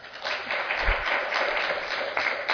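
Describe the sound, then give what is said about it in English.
A crowd applauds the presenters after their presentations, many hands clapping together in a dense, continuous wash of sound that holds at a fairly loud level throughout, with no voices standing out. “Let's give them one more hand of applause.”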